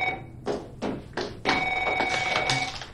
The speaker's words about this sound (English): At the bookstore, Darcy answers her phone.